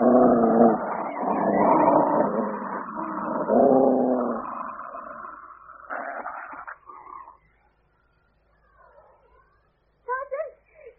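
About a dozen wild dogs that have invaded a cottage growling and barking, a loud snarling tangle for the first few seconds, then sparser yelps and snarls that fade to quiet before a short final burst.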